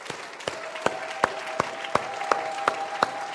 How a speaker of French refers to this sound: Je voudrais juste vous inviter à saluer Dieu avec deux mains d'acclamation.